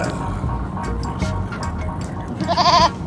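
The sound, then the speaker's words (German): A goat lets out a single wavering bleat near the end, loud, following a stretch of quiet background noise with faint scattered clicks. “Mit Ziegen, man kann reden, sie können lachen.”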